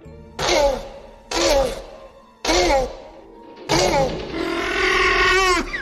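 Four loud, harsh bursts of rasping, honking bark-like calls, each about a second long with pauses between, the last one stretched out longer with a wavering, groaning tone. These are two tortoises mating at Marine World, an old aquatic theme park in California, used as the raptor barks in Jurassic Park.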